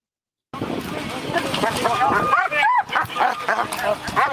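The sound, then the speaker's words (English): A dog barks and yips repeatedly in quick, excited bursts, loud, with voices murmuring in the background throughout. “We don't have to stop it, but everybody else is masked up because the dog is off about the OC.”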